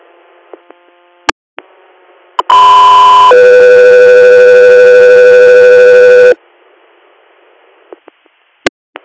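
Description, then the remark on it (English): Two loud, steady radio dispatch alert tones for Guthrie Air play back to back, a higher pitch for about a second then a lower one held for three, with faint clicks and static before and after. “Guthrie Air, standby for tones.”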